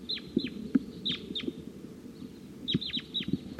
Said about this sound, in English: Crossbill's on the scene here. Wild bird up in the tree.